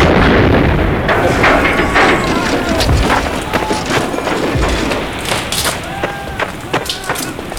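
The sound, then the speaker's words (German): A camper van explodes in a loud, sustained blast, followed by a rapid string of sharp bangs and crackling bursts over a heavy, continuous rumble that fills the whole scene. “Ich glaube es nicht, der Campingwagen ist explodiert.”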